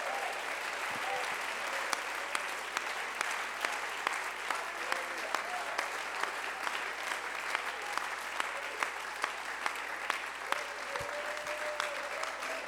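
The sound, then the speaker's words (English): A large audience at a sermon claps continuously as a hand clap of praise to God, dense overlapping applause at a steady, fairly loud level, with faint voices and scattered sharper claps over the wash of sound. “Come on, go ahead and give God a hand clap of praise.”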